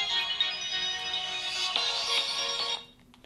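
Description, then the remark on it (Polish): A mobile phone rings with a bright, steady electronic melody of sustained tones for nearly three seconds, clear, then cuts off abruptly, leaving quiet room noise. “Ja może wyłączę telefon, żeby nam tutaj w podcaście nie przeszkadzał.”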